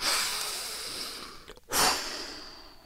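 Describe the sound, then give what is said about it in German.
A long, airy breath drawn in, a brief pause, then a strong exhale, fairly loud, with no talking. “Oder mal richtig ein- und ausatmen?”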